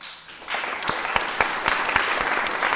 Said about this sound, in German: Keiner hat sich vorher abgesprochen und doch wissen alle, was jetzt zu tun ist. Die Leute klatschen.